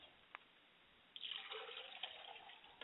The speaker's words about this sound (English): And finally, I pour libations to the south, and we say, Ashe. Ashe. And ladies and gentlemen, I periodically let the water hit the ground.